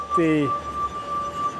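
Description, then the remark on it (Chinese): A single clear, ringing tone from a wine glass rubbed on its rim with a wet fingertip, part of a glass harp of 60 stemmed glasses fixed to a soundboard with rubber bands and tuned with distilled water, hums steadily throughout, with a short burst of a voice near the start layered over it. “虽然他也演奏其他乐器，可是玻璃琴是他的挚爱。”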